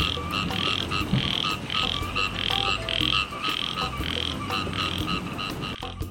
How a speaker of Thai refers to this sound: เรื่องราววันนี้เป็นเรื่องของสัตว์ตัวน้อยที่ปรากฏตัวและส่งเสียงร้องหาคู่ในวันฝนตกวันนี้เราจะมารู้จักกับสัตว์ที่คล้ายกบแต่ไม่ใช่กบค่ะมันคือเขียดกับปาด